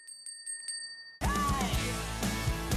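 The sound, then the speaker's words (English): A bright bell rings several times in quick succession as a segment sound effect, its clear tones hanging in the air, then a loud, dense burst of music abruptly cuts in and takes over. “That was Bell Ringer.”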